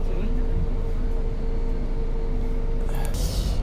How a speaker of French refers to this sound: Voilà, donc maintenant je suis dans le bus qui commence à rouler et qui sort de la bus station, il est 7h41.